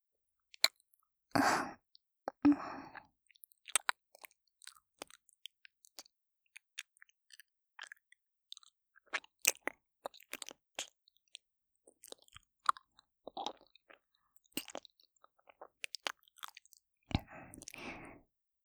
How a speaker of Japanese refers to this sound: 今は、この耳元の卑猥な水音、楽しんでいていいですよ。下品で、ドロドロの唾液が、お口の中で、くちゅくちゅ、くちゅくちゅ。粘り気が強くて、熱い、唾液。